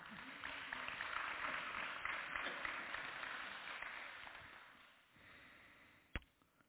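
An audience at a church gathering applauds a speaker with dense, steady clapping for about five seconds, then the clapping thins and fades, ending with one sharp knock or thump.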